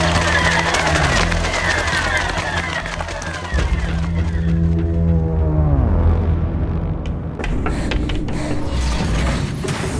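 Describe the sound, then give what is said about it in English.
Frenzied cries of night birds pile on top of each other, loud and continuous, with warbling, swooping calls and a low rumbling drone underneath throughout. “The night cries have gone mad.”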